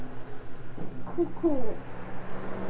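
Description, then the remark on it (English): A soft two-note cuckoo call rings out once near the middle, mellow, over a low steady hum with no talking. “Cuckoo. Cuckoo. Cuckoo. Cuckoo.”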